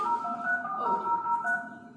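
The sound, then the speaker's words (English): A dial-up modem connecting to the internet over a phone line: steady, layered electronic tones hold and shift pitch over a faint hiss for about two seconds, with no voices. “And at that time, we were using what was called dial-up connection.”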